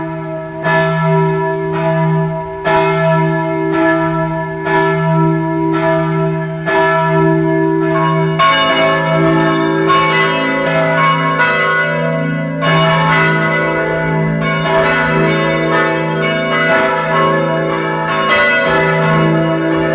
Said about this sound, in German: Es ist 12 Uhr. Sie hören die Glocken der Pfarrkirche St. Michael in Bad Eisenkappel in Kärnten.